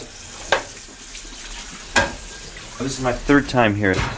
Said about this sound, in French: Je fais la vaisselle.